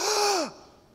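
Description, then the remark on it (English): A single sharp, breathy gasp voiced by a person imitating a crowd gasping in shock, fairly loud, lasting about half a second with a falling vocal tone before it cuts off into quiet. “They sucked wind. They gasped.”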